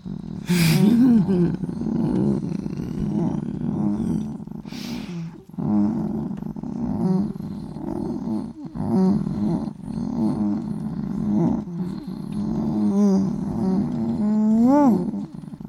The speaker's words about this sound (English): The cuddle pile has become the purr pile. You can't blame kitties for purring.